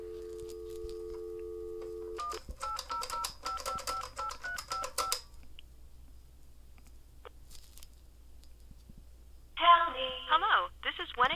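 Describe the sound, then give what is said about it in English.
An old 1970s carbon telephone being played with gives a steady dial tone for about two seconds, then a quick run of beeping keypad tones, followed by quiet and a short burst of voices at the end. “Just to the right of that, we have an old 1970s Carbon phone, which is fun to play with.”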